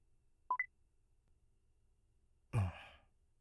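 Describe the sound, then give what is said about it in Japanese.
Two quick electronic beeps from a mobile phone keypad as someone handles another person's phone and deletes a contact, one beep slightly higher than the other, followed a couple of seconds later by a breathy sigh. “僕の携帯なのに勝手に触ってる。”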